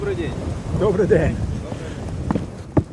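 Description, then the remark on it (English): Wind gusts in a steady, rumbling roar at a front-line defensive position beside a trench, with brief muffled voice-like sounds early on and a couple of short sharp knocks toward the end. “The wind gusts and a soldier beckons us to join him in a nearby trench.”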